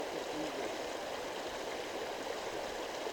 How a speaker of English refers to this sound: I'm really close to the stream.